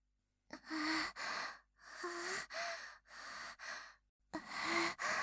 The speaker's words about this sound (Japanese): 息遣いが近づいてきた。